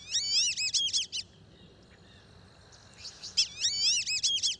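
Black-bellied whistling ducks give high, wavering multi-note whistles in two bursts, separated by a quieter gap with only a faint steady hiss beneath.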